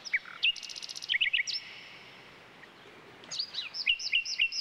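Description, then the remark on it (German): A nightingale sings alone in bursts of varied whistles, rapid high trills and sharp chirps, pausing briefly midway before resuming with quick repeated phrases, clear. “Ein solcher Vogel ist, wie der Name schon verrät, die Nachtigall. Sie ist ein scheuer Singvogel, den man nur selten zu Gesicht bekommt, dafür aber umso besser hören kann.”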